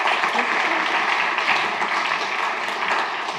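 Steady, dense applause from an audience in a tent welcoming a speaker before a talk about the Dutch language, a continuous wash of many hands clapping at even loudness throughout, with no voices standing out.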